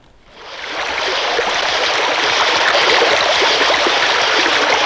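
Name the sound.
flowing river water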